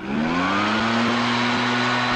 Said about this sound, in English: Another state's considering a ban on those roaring gas-powered leaf blowers.